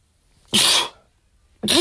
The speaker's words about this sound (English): Excuse me, I rarely sneeze on the podcast. Excuse me, babies.